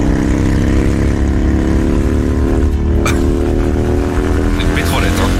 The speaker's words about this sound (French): Et puis, dernier bruit qui insupporte les Français, les deux roues.